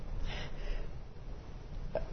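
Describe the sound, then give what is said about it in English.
A single quick, muffled sneeze near the start, moderately quiet against a steady room hum, followed by a brief faint sniff-like sound near the end. No one speaks. “Bless you.”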